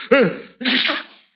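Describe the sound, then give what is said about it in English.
A single loud sneeze from someone who has caught a cold: a short voiced intake rising in pitch, then a brief pause and a forceful, breathy burst, with no talking. “Yeah, guess I caught cold wandering around the reservoir last night.”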